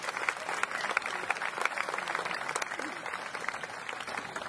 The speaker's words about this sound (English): would you please stand and everyone give her a big round of applause?